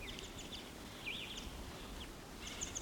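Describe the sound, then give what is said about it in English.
A male bird perched at the top of a dead pine gives scattered high-pitched calls: short chirps and one clear up-and-down whistled note, fairly soft over a steady low rumble, with no voices. “That's him giving calls.”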